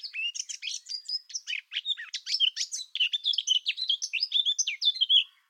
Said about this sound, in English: It has a flutiness like the blackbird, but the song is longer. Each verse may be 4 or 5 seconds long. And the thing I love about the blackcap song is that when it starts its song, it's quite tentative. It's as if this bird isn't sure of himself.